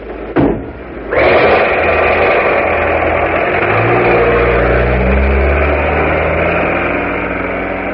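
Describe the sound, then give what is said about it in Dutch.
A taxi's engine starts up with a sharp burst, then roars steadily and climbs in pitch as it revs and pulls away, with no voices. “Ik geloof dat je taxichauffeur ongeduldig wordt.”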